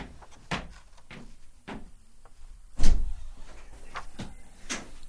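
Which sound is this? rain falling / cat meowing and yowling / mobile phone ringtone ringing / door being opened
door being opened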